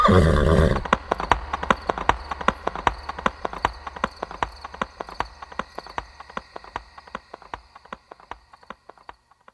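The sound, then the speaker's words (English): A horse gives a short whinny, then hooves clip-clop in a quick, steady rhythm that gradually fades as the animal moves away, ridden by a physician rushing to a sick patient's bedside. “rushes on horseback to the Baron's bedside”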